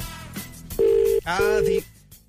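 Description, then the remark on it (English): A loud, steady double-pulse ringback tone from an outgoing phone call to Castlebar in the West of Ireland, two short buzzy rings close together, with a voice talking quietly underneath. “It's a West of Ireland ringtone, that is.”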